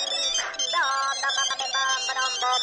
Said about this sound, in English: Oh, cell phone ringing, obviously, right? And other such sounds.